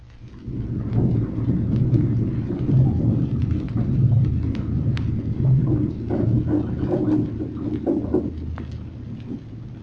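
Waves slap against the hull of a destroyer overhead, heard from below: a steady, low rumbling wash, broken by irregular soft thuds and splashy crackles that continue throughout with no voices.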